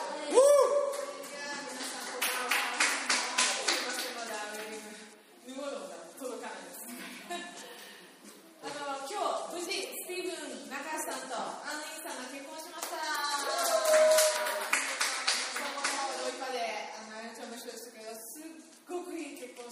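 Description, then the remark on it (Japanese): Steady, dense applause from an audience carries on for the whole stretch, with voices calling out and cheering over the clapping, as a new speaker is welcomed to take over. “はい、拍手を持って期待しましょう。”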